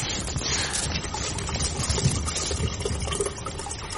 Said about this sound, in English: did you hear something? Water! Feet there! Where?